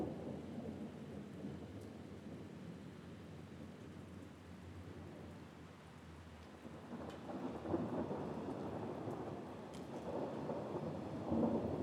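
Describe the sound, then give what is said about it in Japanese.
Deep spring thunder rolls and rumbles through steady rain in Sendai on 8 April after 7 p.m., recorded outdoors with a microphone, swelling louder in the second half with low booming surges. No voices, just the storm outdoors. “雷こそ二度と同じ音にはならないものの一つ。すかさずマイクを持って外に飛び出しました。”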